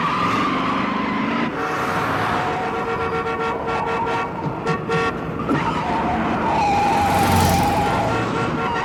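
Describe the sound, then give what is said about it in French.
A frantic car chase from the 1971 film French Connection, directed by William Friedkin and shot in the streets of Brooklyn, with Gene Hackman chasing an elevated subway train: roaring engines and rushing traffic, blaring horns and a wailing siren, with squealing tires cutting through the loud, continuous din. No one speaks. “En 71, avec cette scène tournée sans autorisation dans les rues de Brooklyn et dans laquelle Gene Hackman prend en chasse le métro aérien, William Friedkin réalise la course-poursuite la plus incroyable de l'histoire du cinéma.”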